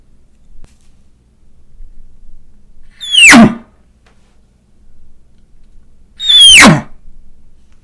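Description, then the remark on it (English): Two short, harsh elk nervous grunts blown on a reed call, each a quick downward-sliding squeal into a rough low burst, spaced about three seconds apart with quiet between them. “This is the nervous grunt.”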